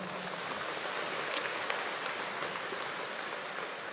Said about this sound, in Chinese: 鼓掌。